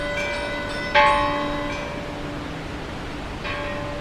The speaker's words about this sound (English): The other churches in the town, such as the chapel of Buen Suceso and San Pedro, also joined in ringing their bells, so all the fishermen could be notified and quickly take to their boats.